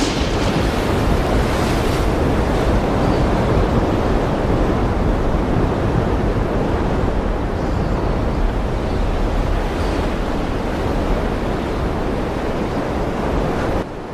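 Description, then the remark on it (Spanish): Loud, continuous roar of a stormy sea, heavy waves churning under strong gusting wind, steady for the whole stretch with no voices. “Y le dijo al mar que parara y a la tormenta que dejase de susurrar.”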